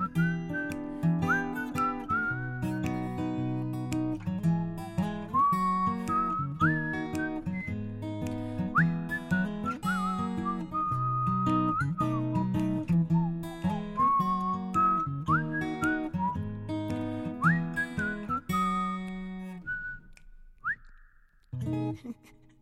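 A bright, clear whistled melody carries a bouncy tune over steady instrumental accompaniment, with short phrases rising and falling before the music thins out near the end.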